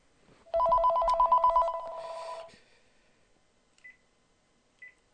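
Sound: telephone ringing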